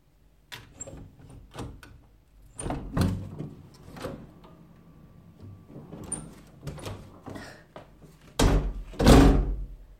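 A door is unlatched and opened for a visiting nurse with a series of clicks, rattles and soft knocks, followed by two heavy thuds near the end as it swings and settles.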